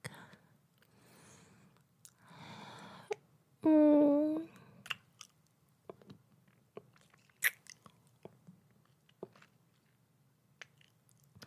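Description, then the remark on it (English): Crunchy chewing while tasting a dip, with irregular crisp bites and clicks scattered over several seconds, plus one loud, brief, tonal squeak-like vocal sound early on and some faint murmuring. “Let me just taste the dip first.”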